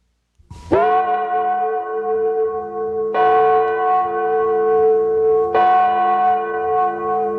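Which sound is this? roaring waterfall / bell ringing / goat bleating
bell ringing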